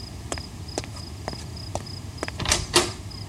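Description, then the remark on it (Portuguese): Evenly spaced footsteps approach, then a door is unlatched and pulled open with a short clattering creak in answer to a knock, while crickets chirp steadily in the background. “Deixa, vou abrir.”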